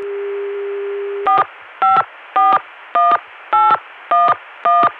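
A steady Connecticut CCSA dial tone, reached via the Richmond PBX, hums, then cuts off as seven evenly spaced touch-tone beeps dial a phone number to go back to the Chicago dial tone, in a quick, regular rhythm over a faint line hiss.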